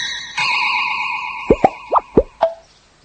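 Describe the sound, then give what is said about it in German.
A sustained, shimmering magical tone rings out, then a quick run of four cartoonish popping sounds bursts in succession, each a bright, springy plop, as a spell turns four rabbits back into people, before everything falls quiet. “Viermal plopp.”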